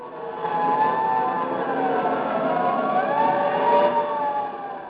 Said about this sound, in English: The clanging of fire engines.